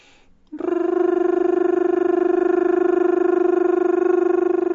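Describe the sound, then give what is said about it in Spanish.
In a vocal exercise, a voice imitates children playing with toy cars with a sustained, high rolled R at the musical note B, a rapid fluttering trill held at a steady pitch for about four seconds after a brief quiet start. “Vamos a hacerlo como imitando a los niños cuando juegan a los carritos.”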